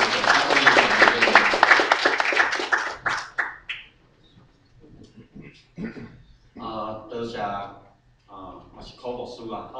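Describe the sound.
A roomful of people claps steadily for about three seconds, the dense applause fading out before a single voice begins speaking alone at a moderate distance.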